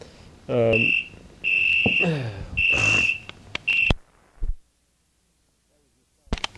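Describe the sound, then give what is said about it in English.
A South African phone rings with three loud, buzzy electronic bursts in quick succession, followed by a couple of sharp clicks and a knock, then near silence before a brief final click. “That was your South African phone ringing there, and we were talking about Isaac.”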